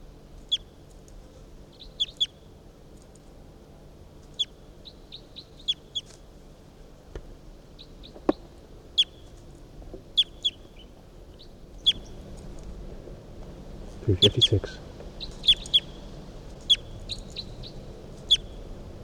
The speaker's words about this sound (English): Recording bird 356 here.